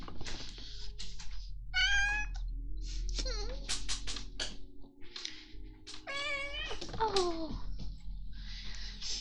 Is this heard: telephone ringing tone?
no